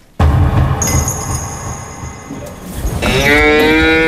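cow mooing

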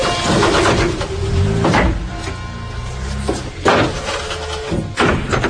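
doors being closed

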